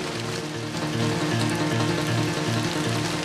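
Steady rain pours down in a continuous, even hiss, loud, with a low droning hum running underneath throughout.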